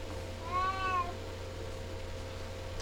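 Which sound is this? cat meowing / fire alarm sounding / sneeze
cat meowing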